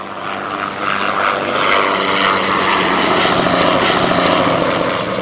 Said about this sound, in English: It's pretty loud around here, doesn't it? When the C-130s are flying, they're not much higher than that, and sometimes even lower than that.